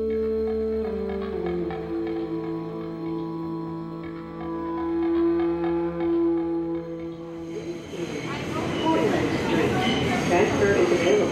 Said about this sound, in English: And after the interview, we got on a train and headed to Lower Manhattan.